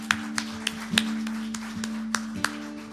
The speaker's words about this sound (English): Let's give the people who said that prayer a hand in the house this morning.